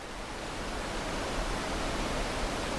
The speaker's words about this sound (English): At first glance, it looks like any other waterfall. It's picturesque, surrounded by the lush wilderness of Minnesota's North Shore, and powerful enough to get that real good, relaxing roar of rushing water.